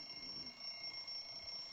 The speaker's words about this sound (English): There's your alarm clock.